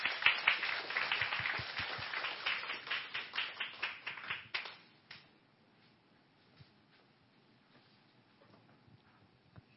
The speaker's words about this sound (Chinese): 好，我们拍手欢迎他。